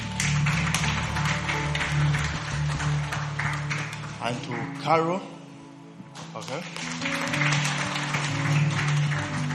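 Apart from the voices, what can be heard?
audience clapping hands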